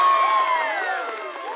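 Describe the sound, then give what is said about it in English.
A crowd of neighbors cheers and whoops together outdoors in the road, many overlapping voices rising and falling in a steady, excited roar that holds for the whole moment. “They don't hear anything from the ground, only their neighbors cheering in the road, until they saw their moon change.”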